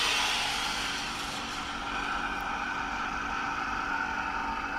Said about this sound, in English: All right, so we're ready to switch on. Let's hear what it sounds like. Yeah, you ready? I'll just switch the vacuum pump on to take the air out, so you'll hear that starting to run. Here we go.